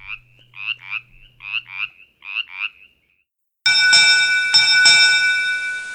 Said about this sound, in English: Thanks to the Virginia Department of Wildlife Resources for permission to use this week's sounds. And we let Brimley's Chorus Frog have the last call.